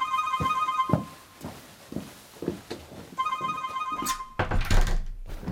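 A mobile phone ringtone for an incoming call from Krystyna chimes in two bursts of bright, repeating electronic tones, accompanied by soft thumps and rustling as if the phone is being handled or searched for.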